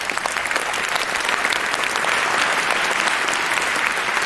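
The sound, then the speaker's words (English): A crowd at a Congress event claps steadily for the angels, translators and heralds, a dense, even patter of many hands that stays loud and sustained for several seconds with no voices over it. “So can we give them a bit of a round of applause?”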